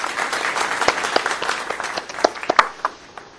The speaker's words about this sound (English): Here's your applause. I'm playing applause on the channel.